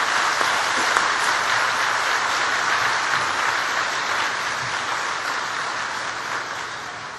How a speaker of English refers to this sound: Oh, and you might give a quick hand of applause to our brass quintet,